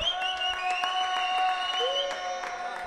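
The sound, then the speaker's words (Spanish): Applause, a scatter of sharp claps over about three seconds, layered over steady sustained musical tones that hold throughout at a fairly even loudness. “Fora aplaudiment, fora aplaudiment, perquè jo em penso que s'ho mereixen, eh?”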